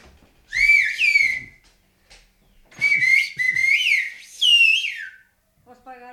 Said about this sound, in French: Bon, je vais siffler alors.